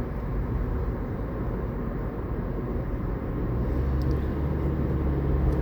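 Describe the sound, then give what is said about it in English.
A truck with brand-new tires and new wheels rumbles along the road alongside, a steady, loud low roar of engine and tire noise that swells slightly toward the end, with no voices. “I got this truck beside me.”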